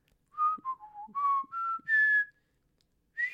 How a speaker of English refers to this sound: What do you want me to whistle? Name a tune, okay? The Star Spangled Banner.